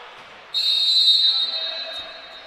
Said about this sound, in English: And here in the consolation game, the nightcap here at Savannah, Maryville boys basketball soon to tip off. Whistle blows.